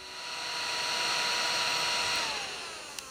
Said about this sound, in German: Einmal abtrocknen, föhnen und dann Countdown bitte.